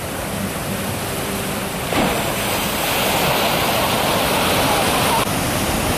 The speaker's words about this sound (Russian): Хорошие волны сегодня.